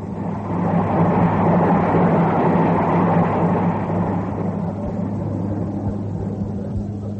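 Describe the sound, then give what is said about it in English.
A goods train rushes straight through a station without stopping, its loud, steady roar and deep mechanical rumble filling the air and easing only slightly toward the end. No one speaks. “Ah, here comes the good train.”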